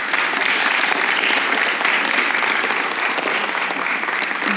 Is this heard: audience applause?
yes